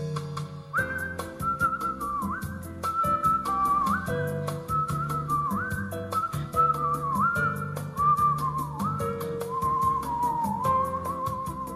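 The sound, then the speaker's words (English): Someone whistles a lively, sliding melody, clear, over a steady rhythmic instrumental backing that keeps a regular beat throughout, as whistlers celebrate their annual rite of spring. No one speaks. “to celebrate their annual rite of spring and to breathe new life into mankind's first musical instrument”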